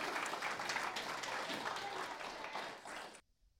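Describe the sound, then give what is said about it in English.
Audience applause, a round of applause for helpers called strong, gifted people: a dense, steady patter of many hands clapping at once for about three seconds before cutting off abruptly into silence. “Round of applause for our strong, gifted people.”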